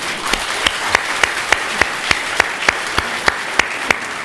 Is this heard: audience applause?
yes